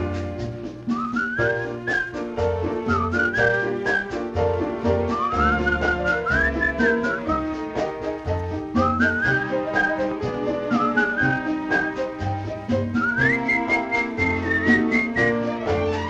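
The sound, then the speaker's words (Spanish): Someone whistles a bright, wandering melody in clear phrases over a lively band accompaniment with steady percussion, the whistle riding loud above the music. “Por tu mano, caminando, buscando de la luna su esplendor, voy silbando, voy cantando el tema popular de una canción.”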